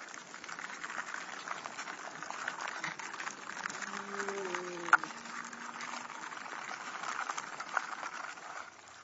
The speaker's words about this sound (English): and the first workers had continued to nest build, chewing up old, dead, untreated wood, taking it back to the young wasp larvae, which in turn chew it into a paste, which the adult workers use to continue expanding the nest.